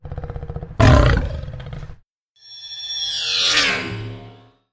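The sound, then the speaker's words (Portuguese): A lion roars loudly, one deep growling burst followed by a second longer, rising-and-falling roar after a brief pause. “Leão escondido com a juba de fora. Bateu a fome, já foi embora.”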